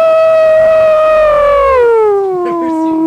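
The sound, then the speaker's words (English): A single loud ambulance siren wail holds a steady high pitch, then slides smoothly downward and trails off lower, with no talking over it. “Yes, ambulance over here!”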